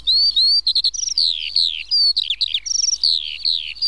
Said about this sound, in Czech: Je to skřivan polní. Ano. Teď by se měl začít ozývat, nebo se pletu, jak je to s tím pořekadlem? Měl by vrznout.